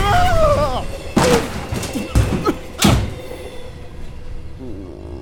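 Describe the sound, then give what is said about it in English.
A steady low rumble of a moving train, broken by three loud, sharp bangs like a door being thrown open and slamming as someone exits the moving train, with brief squealing tones early on. “That's no way to exit a moving train, my boy.”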